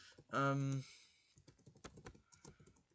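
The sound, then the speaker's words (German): Rapid, irregular clacking of someone typing on a computer keyboard, moderately loud, following a brief loud humming tone at the start. “Wenn ihr einen Tippen hört.”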